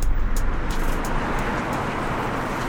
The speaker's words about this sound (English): Do you even hear the freeway noise? No, not very much. We rarely hear the cars driving when we're all the way here.